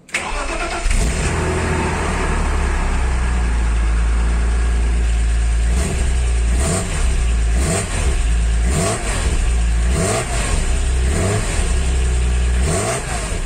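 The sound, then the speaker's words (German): The S54 six-cylinder engine of a Z3 M Coupé starts up, then idles and is blipped repeatedly, each rev rising sharply and falling back in a steady rhythm, loud with no talking. “Und wie das M Coupé mit diesem Motor so klingt, das hören wir uns jetzt mal kurz an.”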